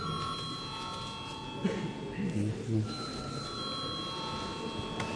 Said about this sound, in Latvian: Paldies, lūdzu zvanu.